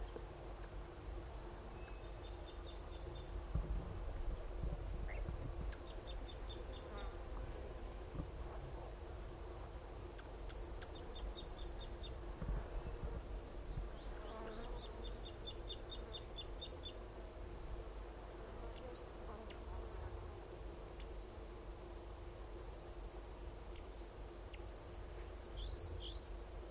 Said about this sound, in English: This could be a completely different bird.